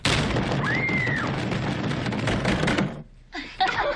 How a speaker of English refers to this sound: Usually nothing happens, unless your jerk friends bang on the outside of the bathroom door.